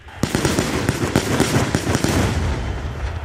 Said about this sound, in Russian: Улицы Минска озарили искры разрывов светошумовых гранат.